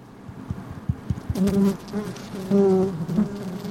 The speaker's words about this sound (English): Inside is a newly arrived colony of 20,000 or so bees.